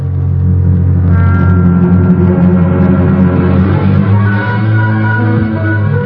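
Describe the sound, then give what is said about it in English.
A car engine rumbles loud, revving higher partway through as the car pulls up at Pfeffer's Brewery and Warehouse, a steady low drone with rising tones and no voices. “I pull up at Pfeffer's Brewery and Warehouse.”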